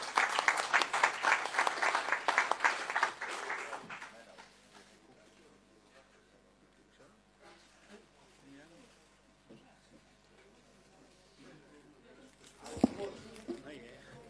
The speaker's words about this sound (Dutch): En dat mondt uit in een bos bloemen onder een hartelijk applaus van uw kant, volgens mij.